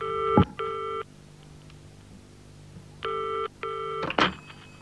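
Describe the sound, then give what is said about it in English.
A telephone call to a home in Edgbaston rings in two pairs of electronic tones, each burst a steady stack of harmonics lasting about half a second, with a pause between pairs and a brief clunk as it cuts off. “I rang her at her Edgbaston home.”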